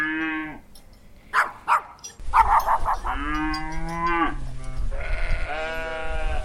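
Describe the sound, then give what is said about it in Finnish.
Several cows moo in turn, long drawn-out calls that overlap and follow one another, with a few shorter grunts, inside a barn with a low background rumble, on a dairy farm that keeps over 100 cows. “Hei, niin kuin tässäkin talossa, että yli 100 lehmää.”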